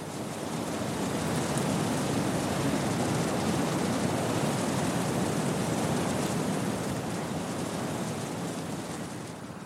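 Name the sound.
sea waves breaking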